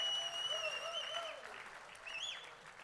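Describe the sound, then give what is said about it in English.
Sustained audience applause for a group of performers, a dense wash of clapping at steady volume, with a few whistles and cheers rising above it before it gradually tapers off. “To the guys in the back, come on, give them one more round of applause.”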